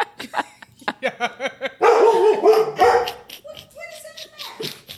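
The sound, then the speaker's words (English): A dog barks inside a house in a quick run of sharp, repeated barks, then a louder, rougher burst, trailing off into higher whining yelps. “Y'all, we got a dog here.”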